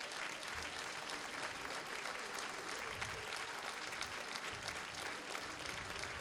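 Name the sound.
audience applauding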